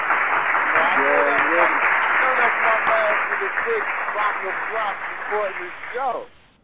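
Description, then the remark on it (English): A crowd applauds loudly and steadily for about six seconds, with scattered cheers and whoops in the mix, before the clapping drops off abruptly at the end. “I get that applause. He gets that applause because that's my G's.”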